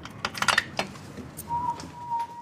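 Crisp metallic jingles and clicks as a man arriving from the sidewalk fits a key into the lock of his house door, followed by a thin, steady high squeak lasting about a second.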